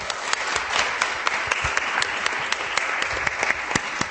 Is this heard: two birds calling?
no